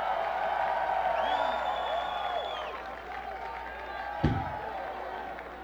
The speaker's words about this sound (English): Hey, tonight's show is being broadcast live over the internet at the House of Blues Worldwide website, so let's give a cheer for the people in cyberspace.